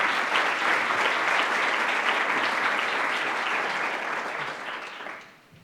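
Steady audience applause welcoming Ambassador Medina Mora, a dense crackle of many hands clapping at an even loudness for about five seconds, then tapering off quickly at the end. No one speaks over it.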